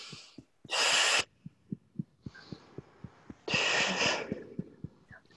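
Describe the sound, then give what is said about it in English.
Two loud, forceful "ha" breaths pushed out a few seconds apart in a breathing exercise for releasing stored energy, over a steady, soft rhythmic thumping of tapping on the heart. “Using the ha sound, ha, ha, and just releasing and letting go of some of that, you know, stored and stagnant energy is going to really serve you right now.”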